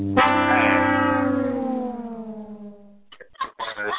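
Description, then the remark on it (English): A "womp womp" sound effect: a brassy, buzzing tone slides steadily downward in pitch for about three seconds, loud and alone, before someone briefly starts talking. “Where is the sound effect? He gets a womp womp with.”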